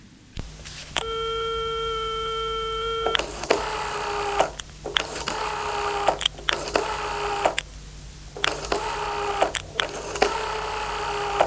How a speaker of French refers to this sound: Il prend le téléphone et fait un numéro.